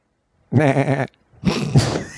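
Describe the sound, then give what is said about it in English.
A person imitates a goat with two loud, quavering bleats, one short and one longer, with a brief pause between them and no other talking. “Just ask me, I'll play the goat.”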